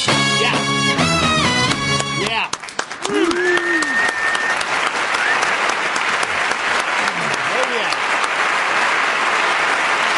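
A band's final notes ring out, then a large audience breaks into loud, sustained applause, dense clapping mixed with scattered cheers and whoops that carries on steadily to the end.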